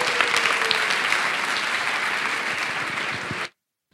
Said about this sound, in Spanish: Y les quiero dar las gracias también, y creo que este aplauso debería ir para ellos, ya que tengo la oportunidad, a mis compis de Yes We Cast, que se han currado unos podcast days tremendos desde allá arriba.